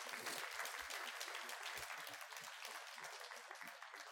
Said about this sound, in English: What a mighty God we serve. Can we give the Lord a clap offering, please?